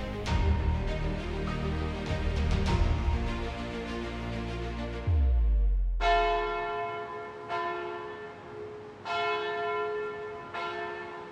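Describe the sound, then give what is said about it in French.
Church bells peal loudly, ringing to announce Easter, a dense overlapping clang that gives way to single resonant strikes ringing out at a steady, slow rhythm, each note humming as it decays. “Les cloches ont sonné, annonçant Pâques et donnant le coup d'envoi de la traditionnelle chasse aux œufs en chocolat.”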